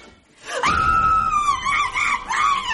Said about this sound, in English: What the hell are you screaming about?